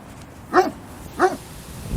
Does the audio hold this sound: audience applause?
no